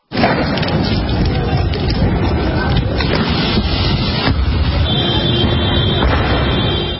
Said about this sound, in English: Explosions could be heard as police and protesters confronted each other.